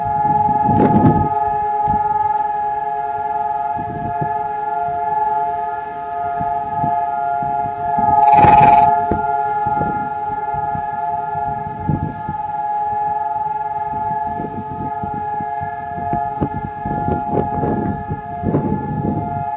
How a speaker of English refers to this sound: All over the whole country of Israel, sirens sound, and for exactly 2 minutes, everything stops.